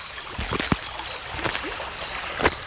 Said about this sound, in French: Ou bien, je pense aux marigots, au son de la rivière qui coule. Ce son est retenu et contenu par les troncs des arbres et la végétation. Il coule, lui aussi.